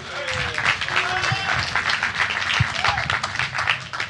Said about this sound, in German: Applaus